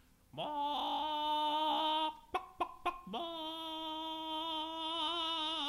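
A chicken gives two long, drawn-out, loud calls, separated by a few quick short clucks, with no one talking.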